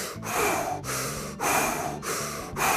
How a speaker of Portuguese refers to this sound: Ah, e antes de vestir o calção, eu fiz uma respiração, velho. Fiz uma respiração bem forte. Eu tava sentado aqui no chão do quarto, respirando desse jeito, só com a boca.